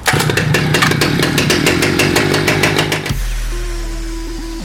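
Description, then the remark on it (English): A loud chainsaw revs hard with a rapid, regular pulsing rattle, then after about three seconds drops abruptly to a low, steady idle hum. “what are you doing with that chainsaw?”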